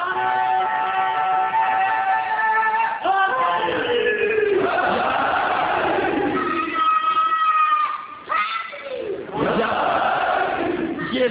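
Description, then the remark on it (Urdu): A large crowd gathered on the night before Ashura chants slogans loudly in unison, several long shouted phrases following one another with short breaks between them. “اب میں آپ سے ضرور چاہوں گا کہ اگر میری بات آپ کو کچھ لگی ہے دل کو کہ واقعی کل ہمیں کس شان سے عاشورہ منانا چاہیے, تو اب میں آپ سے ضرور چاہوں گا کہ اپنے نعروں سے میری بات کی تائید کیجیے.”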